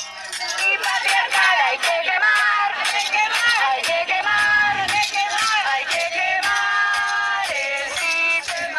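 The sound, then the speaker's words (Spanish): A protest march crowd at yesterday's demonstration ('la Mani del 7') shouting in unison, a dense wall of many voices chanting and yelling continuously at high volume with rising and falling cries. “Yo, para animar un poco la tarde, ayer me fui a la Mani, que es la Mani que más me gusta del 7, y tenía un par de grabaciones de gritos para que sientan cómo era el ambiente ayer.”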